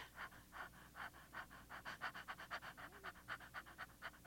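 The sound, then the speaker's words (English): Quick, light panting breaths in a steady rhythm, about three or four per second, fairly soft, with no talking; a demonstration of breathing that gets quicker and lighter at the end of the first stage of labour. “And you fly over with letting your breathing get quicker and lighter.”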